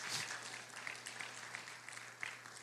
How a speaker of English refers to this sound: Come on, clap your hands this morning.